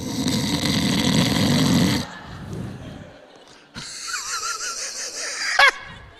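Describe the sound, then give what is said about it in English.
A voice imitates someone snoring in a prayer meeting: a loud, rasping inhale for about two seconds, a quieter breathy stretch, then a nasal, whistling snort ending in a sharp squeak, unaccompanied. “You know how people get busted? Someone starts snoring.”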